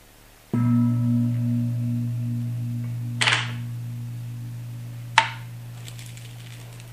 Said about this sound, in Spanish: Sobre el cuenco nosotros observamos en cómo está nuestra mente. O el gong.